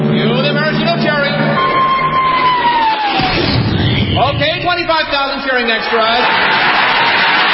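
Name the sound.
crowd of extras cheering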